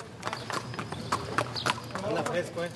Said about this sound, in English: Stable hands took the horses out of the barns and walked them around.